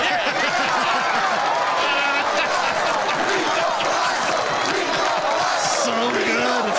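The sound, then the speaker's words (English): A large baseball stadium crowd in the film The Naked Gun roars and cheers continuously as the hero takes off his mask, a dense wash of many overlapping voices with shouts and whoops rising above it, loud and sustained throughout. “And then after he saves the day, after he defeats Reggie Jackson and saves the day, he takes off the mask, and this was the crowd reaction.”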